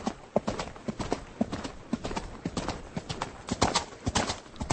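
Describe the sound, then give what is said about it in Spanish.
Horse hooves gallop in a quick, steady rhythm of sharp thudding clip-clops as a rescue party led by Tislav rides toward the Barranco Asesino (Killer Ravine). The sound is continuous and fairly loud across the whole stretch, with no voices over it. “Mientras tanto, el grupo de rescate, encabezado por Tislav, se acercaba a galope al Barranco Asesino.”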